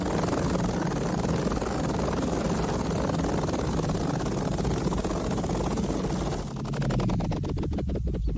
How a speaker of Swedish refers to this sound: det är en kopter. En helikopter, grodan, som tänker landa, tror man.